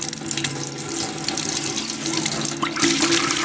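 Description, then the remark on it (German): Liquid beeswax, supplied by beekeepers in Germany, pours steadily out of a tap after having set inside it, a continuous hissing, splashing stream that holds an even loudness for a few seconds with no voices. “Das Wachs will nicht raus. Genau, das ist ja hier festgesetzt. Müssen wir kurz anfüllen. Ah, da fließt's.”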